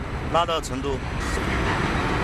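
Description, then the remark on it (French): Dozens of trucks rumble out of a rail freight yard in China in a steady wash of road noise, engines droning without a break, while a voice speaks briefly near the start. “des camions sortent par dizaines de la gare ferroviaire”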